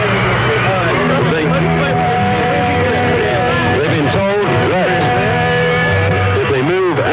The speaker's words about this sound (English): And the crowd are roaring, you can hear them. And I do hope they're able to complete their whole concert. They're under control once more, they're back in their seats.